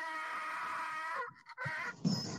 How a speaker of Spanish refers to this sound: No, ¿sabe lo que pasa? Que se mete ese burro. Y no entiendo, se mete ese burro ahí.